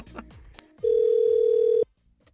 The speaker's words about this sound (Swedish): Vi ska lyssna in nu när … ringer ett hotell i Mora och försöker ragga röster. Vi tar den.